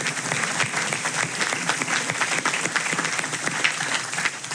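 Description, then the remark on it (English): A large crowd at a church event applauds everyone who helped put the event together, a dense, continuous wash of clapping from many hands that holds at the same strong level for several seconds without pausing. “So first of all, let me just ask you guys to give a round of applause for everyone one that helped to put this thing together.”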